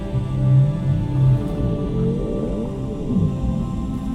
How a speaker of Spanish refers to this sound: En la distancia, percibes la presencia majestuosa de una ballena y la escuchas.